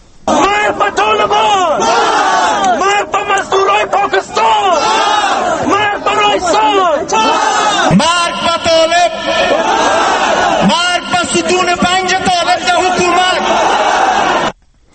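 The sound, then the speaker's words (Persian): Hundreds of protesters in Kabul, Afghanistan, condemning the killing of former Afghan president Burhanuddin Rabbani, chant and shout loudly and continuously, many voices rising and falling together in forceful, repeated calls with no pause until the end. “و هم امروز صدها اعتراضگر در کابل قتل رئیس جمهور سابق افغانستان برهان الدین ربانی را محکوم کردند.”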